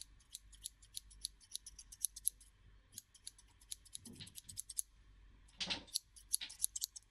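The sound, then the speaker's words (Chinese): Scissors snip hair during a haircut in quick, steady bursts of crisp metallic clicks, with a couple of brief rustling passes midway and no voices. “你老实一点，信不信一剪刀下去你耳朵都没了。”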